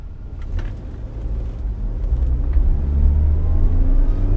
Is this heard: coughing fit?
no